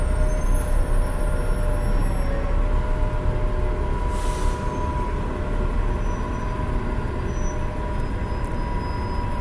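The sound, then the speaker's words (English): Steady, loud low rumble of idling bus engines fills the downtown bus terminal transfer point in Riverside, California, with a short sharp hiss of air brakes about midway through. No one speaks. “And I just decided to make a boo, recording some downtown terminal bus sounds.”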